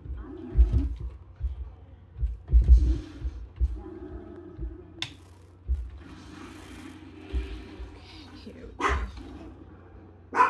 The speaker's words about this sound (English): Sorry, my dog is barking. He doesn't understand that mommy's doing a podcast.